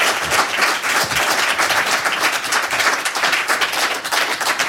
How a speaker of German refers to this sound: Bitte begrüßen Sie mir mit einem donnernden Applaus.